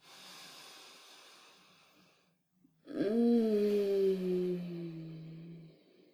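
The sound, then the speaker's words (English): A slow, deep breath is drawn in with a soft airy hiss, then after a short pause comes a long, low, voiced exhale that trails off over a few seconds, quiet. “Breathing in again, pushing down that pleasure down.”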